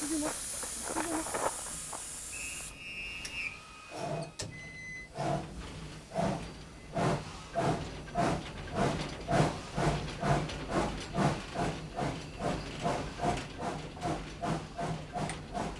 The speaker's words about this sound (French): Le train numéro 402 à destination de Grenoble va partir. Attention au départ et attention à la fermeture des portes.